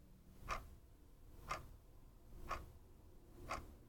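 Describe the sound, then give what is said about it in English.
A clock ticks softly and steadily, four crisp clicks spaced exactly one second apart against a faint, hushed background with no voices. “Picture what happens when you hear the quiet ticking of a second going by.”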